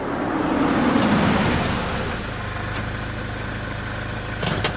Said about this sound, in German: Schau mal, da kommt schon das nächste Auto.